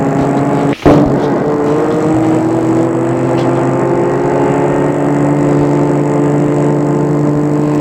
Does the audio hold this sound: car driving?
yes